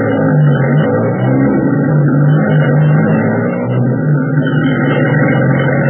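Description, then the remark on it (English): A supply truck's engine drones steadily as it drives, taking supplies collected at a warehouse on their way for the Air Service Command. A loud, continuous low rumble with a slight revving rise and fall and no voices. “At top speed, the needed supplies are collected at the warehouse where trucks are waiting to take them on their way.”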